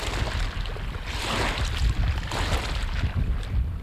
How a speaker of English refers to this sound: The hot morning wind whips up waves in the River Niger, threatening to swamp our low-slung pirogue. Water laps over the gunwales as the fisherman pulls the tiny wooden boat into the shore of this bountiful river.